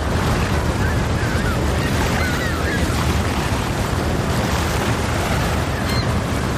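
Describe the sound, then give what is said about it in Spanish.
Steady surf of the sea at Albir washing onto the shore, a continuous broad roar of breaking waves with a gusty, windy edge, holding at an even loudness throughout. “Muy pronto, frente al mar del Albir, Restaurante Lagret.”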